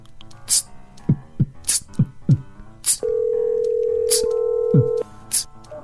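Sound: phone call ringing tone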